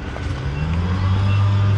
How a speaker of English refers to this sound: That's not a lawnmower. It's a car that needs a muffler, I think.